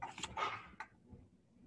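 Dogs barking in a quick cluster of three short, muffled barks, somewhat distant and fairly faint, followed by low background noise with no talking.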